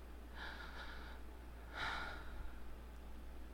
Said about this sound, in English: You brushed your fingers through my hair, then grabbed a handful, tilting my head back. Small gasp escapes my lips.